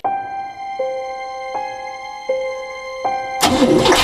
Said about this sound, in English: When I got in the car, it wouldn't start.